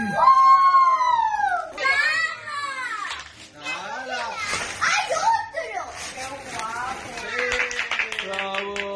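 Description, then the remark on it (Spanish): Excited children shouting, squealing and laughing in a lively burst, several high voices overlapping with footsteps and scuffling as they run down the hallway at home in Spain on Three Kings' Day (Epiphany), sustained and loud throughout. “Así que justo en estos momentos, en lo que estamos empezando esta nueva hora radiofónica, lo que ya se está produciendo en muchos hogares españoles es una sucesión de carreras por el pasillo, de gritos, de nervios, de risas y sobre todo de felicidad.”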